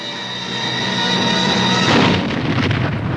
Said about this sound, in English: Dr. Willers and the vicar look up at the sound of the blast.